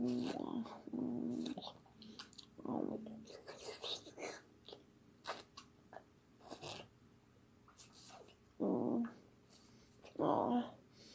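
A person groans and whimpers softly in several short, breathy bursts spread unevenly across the stretch, with quiet breathing and whispery noises between them and no clear words.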